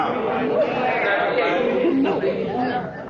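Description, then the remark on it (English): A crowd, reacting to a DMORT representative's answers, murmurs in discontent, many overlapping voices blending into a steady, fairly loud babble that holds for about three seconds before easing slightly at the end. “These responses brought murmurs of discontent from the crowd.”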